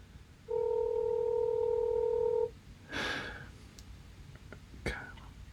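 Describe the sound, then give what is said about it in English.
A single steady American-style phone ringback tone lasting about two seconds, followed by a long quiet gap broken only by a faint breathy rustle and a few soft clicks. “Blimey, that sounds like an American ringtone.”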